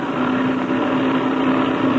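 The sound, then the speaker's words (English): A blue-wing propeller plane's engine drones steadily as it takes off, a loud, even roar with a sustained low hum running underneath and no voices. “It sounds like that blue wing plane is taking off.”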